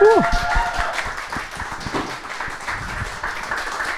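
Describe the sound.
Audience applause rolls on as a steady, dense patter of claps for about four seconds, with a brief rising whistle or cheer at the start and murmured voices mixed in.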